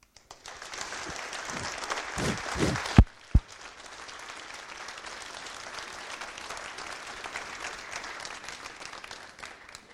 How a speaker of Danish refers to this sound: En lang klapsalve, og tak for det, Jesper Bo.